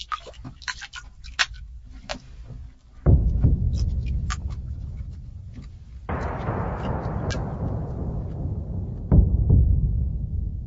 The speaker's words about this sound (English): The sound here has a tightness to it. The water lapping between the canoe and the wall of the rock gives off an odd splooshing sound, a peculiar echo.